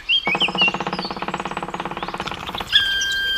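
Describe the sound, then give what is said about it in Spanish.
A black woodpecker drums on wood in a forest in the Alto Narcea area of Asturias, Spain, in spring, in one long, rapid roll of evenly spaced knocks lasting over two seconds, with thin high bird chirps just before and after. “Suena la madera, tamboril león, pica madero negro.”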